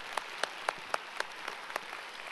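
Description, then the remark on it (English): A church audience applauds Houston's police officers and Fire Department, a steady, rhythmic beat of sharp claps standing out over a continuous wash of softer clapping, fairly even in loudness and with no voices. “Yes, let's applaud for them.”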